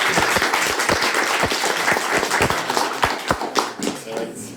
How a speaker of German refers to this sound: Ein kleiner Applaus für unseren ersten Kandidaten.